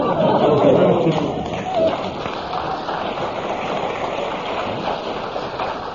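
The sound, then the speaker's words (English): An audience applauds in a dense, steady patter of clapping that holds for several seconds, loudest at the start and gradually settling to a slightly softer, even level. “No, you just get a nice round of applause from the audience”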